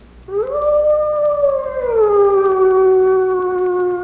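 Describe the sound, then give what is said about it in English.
A single long, mournful wolf howl rises, holds, then slides down to a lower sustained tone, loud and clear with no talking over it. “The howl. That eerie wail that is by far the most significant call of all animals.”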